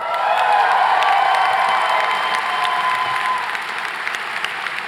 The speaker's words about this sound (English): See, all this claps is for you.